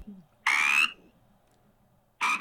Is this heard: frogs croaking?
yes